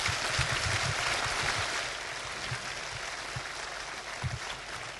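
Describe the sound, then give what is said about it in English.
An audience applauds a presenter steadily for about five seconds, a dense, crackling wash of many hands clapping that eases slightly in the second half without fully dying away. “Yeah, some applause for the guy, please.”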